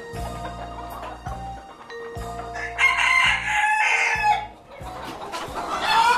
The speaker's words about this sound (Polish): To są kury hamburskie. Nazwa jest trochę myląca, bo one zostały wyhodowane w Anglii. Mają już długo tradycję, a nazywają się hamburskie. Kury bardzo samodzielne, które nadają się do ogrodu.